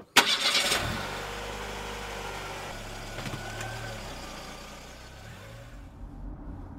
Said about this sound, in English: Can you start the car, please?